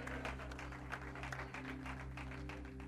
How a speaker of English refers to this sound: Clap for him. There you go.